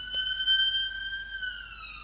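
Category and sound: vehicle, ambulance siren passing by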